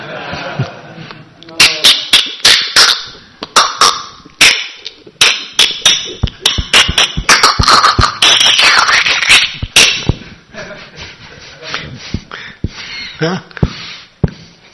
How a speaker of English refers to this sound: I love your floor. It's really nice. I'll miss that squeaky sound.